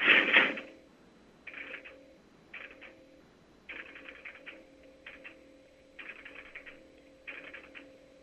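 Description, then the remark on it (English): The marker of a 5 crossbar telephone switch clattering as a number is dialed, in short mechanical bursts, opening with a sharp loud clack, then irregular rattling spurts over a faint steady hum. No voices. “I will dial the number, and then you may hear some clatters of the marker operating, and then there will be some MF tones coming over that hopefully will make it over the radio.”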